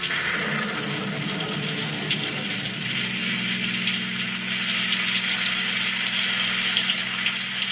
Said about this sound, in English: That lousy rain must be a cloudburst. I can't see a thing.